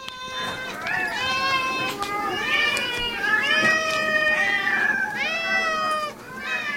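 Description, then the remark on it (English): A chorus of about 30 cats at a cat hotel called All My Kitties in Seattle meowing at once as the food tray is carried, overlapping and insistent, with rising and falling wails filling the space continuously and loudly for several seconds. “30 cats sent to us by Maddie, who works at a cat hotel”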